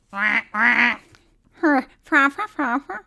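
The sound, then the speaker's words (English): A duck-quack horn sounds about six nasal, honking quacks: two long ones, a short pause, then a quicker run of shorter quacks. “Did I do it right? I haven't done the horn in a while.”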